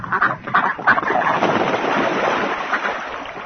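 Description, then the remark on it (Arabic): A flock of geese honking, many overlapping calls jostling together in a steady, busy clamor over a continuous wash of background noise like wind or water. “لما يذهب الإوز في عطلة خلال فصل الشتاء؟”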